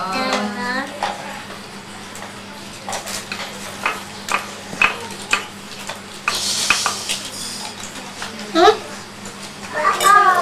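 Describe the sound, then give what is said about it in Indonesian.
Steady sizzling of an egg frying in a pan, with scattered clinks and scrapes of a utensil against the pan, and a child's voice briefly at the start and end. “Kamu lagi goreng telur ya?”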